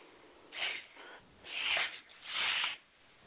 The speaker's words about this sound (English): Who's got the sniffles? Not me.